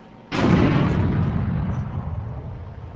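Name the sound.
explosion sound effect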